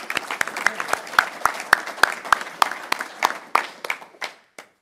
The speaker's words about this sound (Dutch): Of we waarderen je daarmee met de gouden gemeentespeld. Een applaus voor